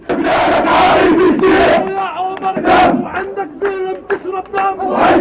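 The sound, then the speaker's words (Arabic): A large crowd of mourners at a mass funeral in the West Bank chants loudly in unison, with rhythmic shouted phrases rising and falling in waves and a few voices leading over the mass of sound throughout. “جنازة حاشدة شارك فيها مواطنون من كل مناطق الضفة الغربية من جميع الأحزاب والمشارب، وهو ما يشكل استفتاء على نهج المقاومة الذي سار فيه الراحل وعائلته.”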